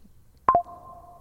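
A short Instagram app notification chime: two quick electronic tones, the second slightly lower, ringing out briefly before fading. It sounds clean, with no one talking over it.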